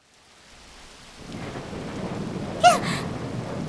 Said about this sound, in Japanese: やだ、雷。 どこかに落ちなければいいけれど。はあ、あの音は大人になってもダメね。急に降り出すんだから。